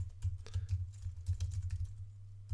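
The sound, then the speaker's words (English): Rapid, irregular clicking of keys as the words Lich King are typed on a computer keyboard, a steady stream of sharp taps over a low constant hum, with no one speaking. “I think I spelled Lich King wrong.”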